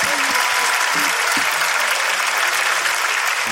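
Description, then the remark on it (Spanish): Steady, dense applause from an audience at the end of the Papelitos del Público segment of a Hablando Huevadas anniversary show, a continuous loud wash of clapping with a few faint vocal sounds or cheers mixed in at the start. “Un fuerte aplauso.”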